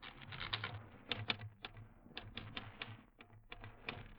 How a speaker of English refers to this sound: Now, let me hit that typewriter for a minute.